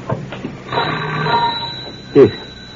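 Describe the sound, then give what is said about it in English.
An electric doorbell at a house's front door, rung by a messenger boy, rings in a single long, steady buzzing peal, moderately loud, with a short louder knock-like burst near the end. “Someone's coming up the front walk. Looks like a messenger boy of some sort. He'll be ringing the bell any moment now.”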